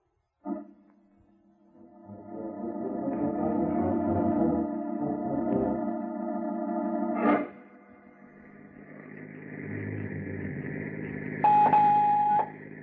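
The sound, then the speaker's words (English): A telephone is dialed in New Orleans, giving a run of steady electronic tones with a sharp click partway through, then a higher tone near the end. Fairly loud, with no voices. “I shall phone him, Mr.”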